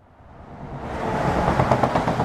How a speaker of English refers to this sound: Trucks headed to and from the port of Calais pass under this bridge at the southern end of the jungle. It's lined with plastic mesh, topped with barbed wire to keep migrants off the highway.